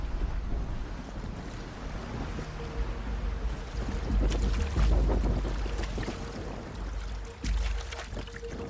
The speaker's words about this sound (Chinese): 高原气候多变，河岸上突然刮起了大风，水面顿时波澜起伏。